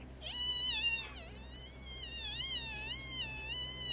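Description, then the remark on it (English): A voice imitates the whine of blown wheel bearings on a trailer towed by a car driving up the street: a steady, high, nasal tone that wavers up and down in pitch, holding for about four seconds with a brief dip near the start. “And I walked around to the side of my trailer, and I had blown my wheel bearings out again.”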